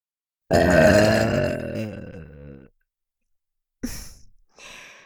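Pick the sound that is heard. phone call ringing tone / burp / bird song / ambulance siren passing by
burp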